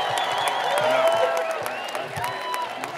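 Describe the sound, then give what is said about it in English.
A crowd in Coney Island on a sunny day bursts into steady applause for everybody who finished the RBC Brooklyn Half, dense clapping mixed with high whoops and cheers rising and falling over the top, loud and sustained for the whole stretch. “But first and foremost, can I get a massive round of applause for everybody who finished the RBC Brooklyn Half today.”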